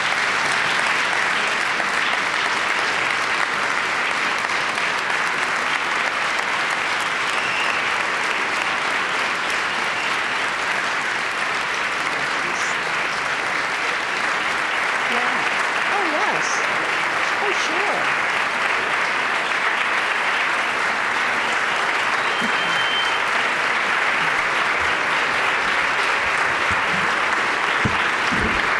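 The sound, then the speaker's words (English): Sustained applause from a large audience, a dense, steady wash of clapping that holds at an even, loud level for the whole stretch without fading. “Ladies and gentlemen, let me interrupt this applause”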